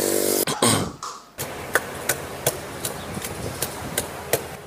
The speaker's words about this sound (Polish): Właśnie stoję przy stoisku ulicznej zielarki, która, jak Państwo słyszeliście, ubijała w swoim drewnianym naczyniu drewnianą pałkę, specjalnie wyselekcjonowaną przez siebie grupę ziół, pęczek, jakichś korzonków.